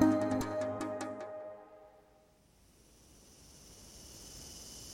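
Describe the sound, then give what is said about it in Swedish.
After a short musical chime fades out, a steady, faint high-pitched buzz of cicadas in tall grass rises and fills the background, continuous, with no voices; a mild summer evening by Lake Wawanoka outside St. Louis, Missouri, USA. “Cikadorna spelar i det höga gräset och månens sken blänker över Lake Wawanoka strax utanför St.”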